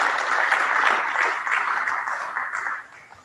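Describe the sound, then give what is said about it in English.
A crowd at the SATS school applauds its new staff members steadily, dense overlapping claps forming a continuous wash of sound that holds fairly even before tapering off near the end. “I'll turn it over to we can clap for all of them.”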